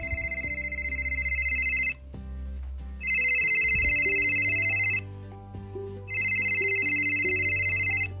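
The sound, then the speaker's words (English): A telephone rings three times in steady, evenly spaced bursts, each a bright electronic trill lasting about two seconds, loud, with a soft low hum of music underneath. “Well, I was on my third cup of coffee when my phone rang.”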